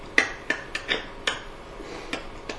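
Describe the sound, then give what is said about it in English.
Seven sharp knocks on a hard surface in the classic shave-and-a-haircut rhythm: five quick raps, a pause, then two final knocks, each with a bright, slightly ringing tone. “You know how to do the shave and a haircut knock?”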